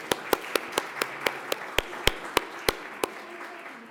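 Steady clapping for a couple's 66th wedding anniversary: a dozen sharp, evenly paced claps stand out over a softer, continuous wash of applause-like noise. No one speaks.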